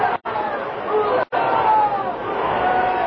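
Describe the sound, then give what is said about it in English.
A large, enthusiastic crowd at a bullfight screams and roars in a loud, continuous wall of noise, rising to its feet as the bullfighter handles his muleta, with high-pitched voices rising above the din and two brief cut-offs in the sound. “He handled his muleta in a way that brought the enthusiastic crowd screaming to its feet.”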